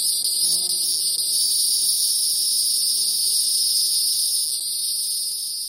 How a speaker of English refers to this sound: Let's listen to cicadas.